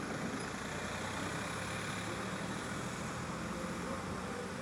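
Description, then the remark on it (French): A car passing on the street gives off a steady, fairly loud engine rumble with broad road noise that holds level throughout, without any voices. “Vous devez pouvoir entendre clairement ma voix, mais aussi une voiture qui passe.”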